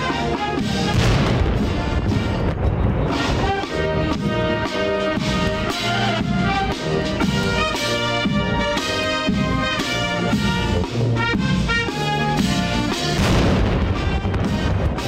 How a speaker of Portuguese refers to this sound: Salva de tiros de canhão.